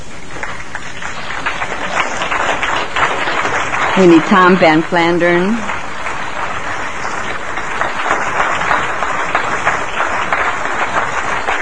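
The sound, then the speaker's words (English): A room full of people applauds steadily throughout, the clapping dense and sustained, giving closing applause to the guest speakers invited up to the platform, while a man's voice calls out briefly over it midway. “I really would like to invite all of our guest speakers up here to the platform so that we can give them the appropriate closing applause, please.”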